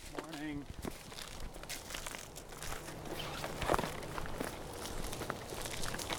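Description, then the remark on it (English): Footsteps of a Mount Carmel Outreach team crunch and snap through fallen tree branches and sticks on Columbus's south side as they walk to a homeless camp, a steady, uneven rhythm of crackling steps, with a brief bird chirp early on and faint voices in the background. “Hidden from the public eye, the team crunches through some fallen tree branches and sticks to arrive at a homeless camp.”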